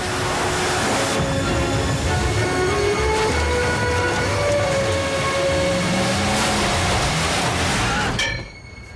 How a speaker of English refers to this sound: The road runs down to the river's edge and the Queen ploughs into the waters. As she heads across the ford, rocks and potholes on the riverbed jolt the car.